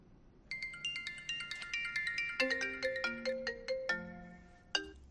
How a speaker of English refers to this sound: I never get phone calls, but right now I get them. When I'm doing something.